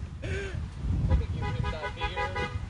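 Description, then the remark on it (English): Several car horns honk in overlapping bursts, a short toot first and then a longer stretch of layered beeps, over a low rumble of traffic. “Now he's getting the beeps.”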